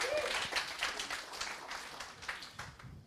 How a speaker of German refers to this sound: Ja, also, Applaus ja.